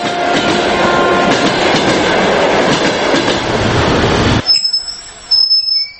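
A Moscow–Izhevsk passenger train rumbles and clatters loudly and steadily over the rails for several seconds, then the roar cuts off abruptly, leaving faint high-pitched tones and softer knocks.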